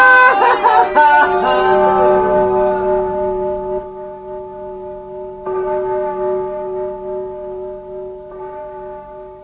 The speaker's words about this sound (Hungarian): Kis harang, nagy harang, delet hirdet minden hang.